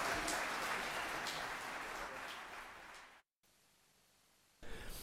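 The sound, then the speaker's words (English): An audience applauds a group of guests, including NYPD officers, an Air Force One pilot and a NASA representative. The clapping is a dense, steady wash for about three seconds, then thins out and cuts off abruptly before a brief burst returns at the end. “So warm round of applause to these guys.”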